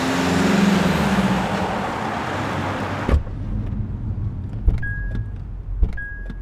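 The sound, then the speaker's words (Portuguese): Loud, steady road and engine rumble from inside a ride-hailing app car heading to the Juliano Moreira municipal health care institute on 8 May 2023, then a thump and a quieter cabin with soft clicks and two short high electronic beeps. No one speaks. “O dia é 8 de maio de 2023 e eu acabo de entrar em um carro de aplicativo que vai me levar ao Instituto Municipal de Assistência à Saúde Juliano Moreira, o IMAJM, como também é chamado, ou Colônia Juliano Moreira, como continua sendo conhecido.”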